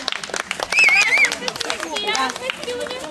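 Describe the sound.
Scattered, uneven clapping from a crowd applauding a contest winner in a red suit, mixed with excited voices and a wavering high whistle or shout, all fairly loud and continuous for about three seconds.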